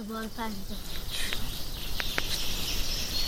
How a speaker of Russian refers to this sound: Когда мы проснулись, то услышали пение птиц.